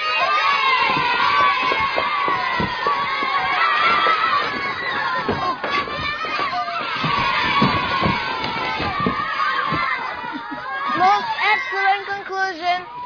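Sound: crowd cheering with joy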